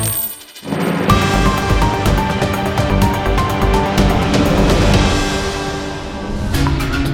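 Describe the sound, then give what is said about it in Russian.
Coins clink and jingle in quick, bright metallic bursts over a dense, loud musical bed, the jingle of a radio news segment called "Koshelek" (Wallet), with a brief hush near the start before the full sound kicks in. “Звон денег в каждой новости.”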